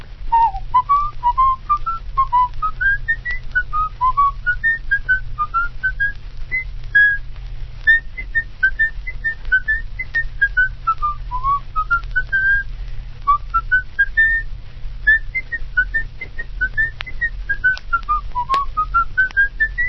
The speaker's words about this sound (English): That is repeated. I'll have to whistle the rest of it.